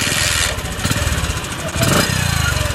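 A small motorcycle taxi (okada) engine runs loudly, its steady chugging rising briefly as the throttle opens, with faint street noise around it, in Lagos, Nigeria.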